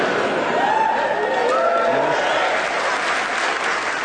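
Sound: audience cheering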